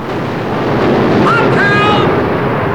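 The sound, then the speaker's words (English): Heavy sea spray blasts a ship from the rear and thunders down onto the men on deck in a loud, continuous roar of churning water and wind, dense throughout, with a brief high creak or cry rising midway. “Another colossal jet of spray blasts the ship from the rear. Water thunders down onto the men on deck”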